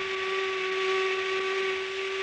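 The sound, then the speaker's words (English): A factory whistle blows one long, unbroken tone that holds steady throughout, with a breathy hiss of steam riding over it and no voices. “You know, if you think of it the right way, even the sound of a factory whistle is mighty pretty.”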